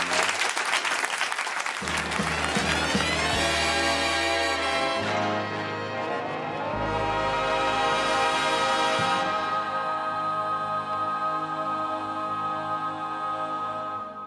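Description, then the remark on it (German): A theatre audience at the Theater am Hechtplatz in Zürich applauds steadily and loudly for about fourteen seconds, a dense wash of many hands clapping, with sustained musical tones playing underneath throughout. “Das war der Applaus aus dem Theater am Hechtplatz Zürich.”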